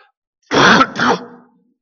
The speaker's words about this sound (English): If I can quit coughing, praise God, let it stop.